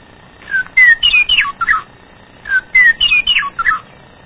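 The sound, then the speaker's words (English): A meadowlark sings outdoors on a sunny day, two clear, flutelike phrases of bright whistled notes sliding up and down, separated by a short pause, fairly loud over faint background noise. “There is our meadowlark, one of the prettiest sounding birds you'll ever listen to out here.”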